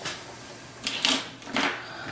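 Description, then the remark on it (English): A utensil scrapes around inside a blender jar, scooping out every last bit of the contents, in two short bursts of rasping, clattery scraping, with a quiet pause between them and no talking. “Okay, I'm gonna scoop every last bit of it out.”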